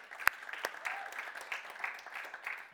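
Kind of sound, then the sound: crowd, audience applause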